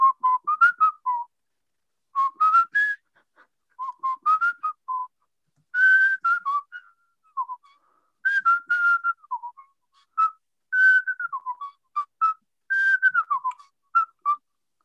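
A person whistles a lilting melody, clear, in phrases of quick rising and falling notes with short pauses between them. No one speaks and there is no background sound.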